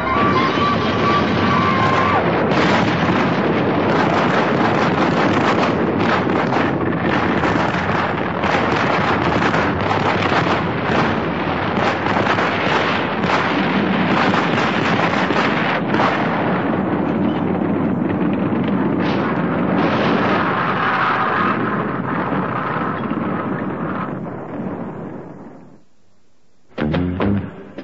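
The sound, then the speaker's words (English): A loud, sustained explosion roar with dense crackling rumble that rages for nearly half a minute, then abruptly cuts out, followed by one short final burst. No one speaks. “Somehow I escaped from the explosion unharmed.”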